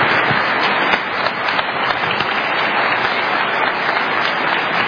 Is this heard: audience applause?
yes